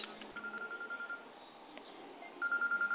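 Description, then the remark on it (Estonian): A telephone ringing as thin, rapid electronic beeps heard down a phone line, in two pulsing bursts separated by a short quiet gap, with no one speaking. “Nüüd on mul teine telefon.”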